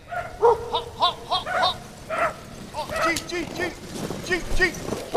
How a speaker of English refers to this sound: Usually it's the bell atop Anvik's Episcopal Church that signals the arrival of the first musher into this lower Yukon River community. But this year, the local dogs bark their greetings to the visiting dog team driven by Hugh Neff.